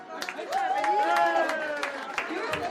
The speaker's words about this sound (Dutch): Geef hem maar een applaus, een geweldig applaus.